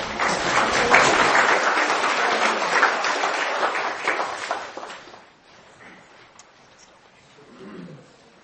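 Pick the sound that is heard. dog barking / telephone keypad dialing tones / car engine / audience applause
audience applause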